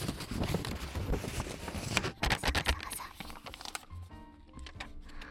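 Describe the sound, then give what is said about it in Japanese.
Crisp crinkling and rustling of unneeded paper receipts, one for hay fever medicine and one for points added to a point card, being crumpled, dense crackles for a few seconds, then the handling fades and a voice starts talking. “さて、今回ガサガサしていたレシートはですね、私の花粉症の薬のレシートとポイントカードがついたよっていうレシートでした。”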